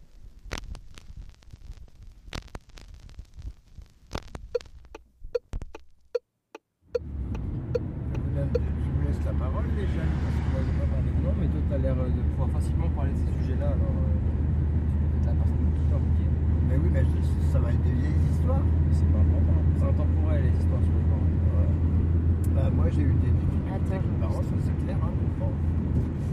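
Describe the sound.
A car engine runs with a steady, loud low drone, as if heard from inside the moving vehicle. It starts abruptly after a few quieter seconds, and voices talk over it.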